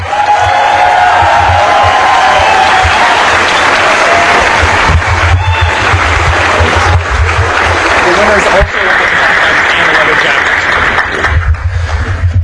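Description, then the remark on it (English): A large crowd at a hacker conference applauds and cheers loudly and continuously for the team behind the Capture the Flag contest, with scattered whoops rising above the dense clapping for the full duration. “So let's hear a great round of applause”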